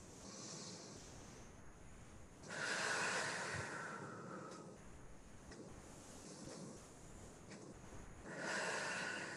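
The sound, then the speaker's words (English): Slow, deep breaths in and out as a calming breathing exercise, with airy rushing swells that rise loudly twice amid a steady breathy hiss, without any talking. “Breathing in, gathering all that good energy into ourselves.”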